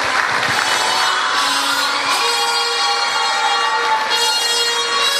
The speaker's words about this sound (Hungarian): Nagy tapsot kérek a lányoknak.